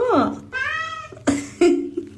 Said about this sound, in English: I want to hang with that kitty, man. I really do. That responds with, hello.